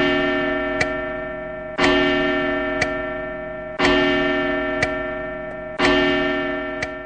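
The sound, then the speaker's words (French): A village clock bell, which announces the hour and half hour, strikes slowly, each heavy stroke about two seconds apart and ringing on with a long humming resonance, with lighter taps falling between the strokes. No voices. “Maintenant, j'entends les bruits des touristes qui passent et l'horloge du village qui annonce heure et demi-heure.”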